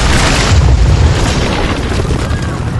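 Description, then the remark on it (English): A massive, continuous rumble of millions of tons of stone as a pyramid collapses, deep and loud throughout, with dense low-end roar and crackling debris texture that slowly eases off over about three seconds. “Millions of tons of thundering stone collapsed behind them, and they barely kept a few yards ahead of it as the pyramid imploded.”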